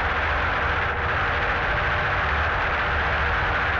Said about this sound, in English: Both engines are maintained by Roy Phelps of Santa Pod. They both sound very strong.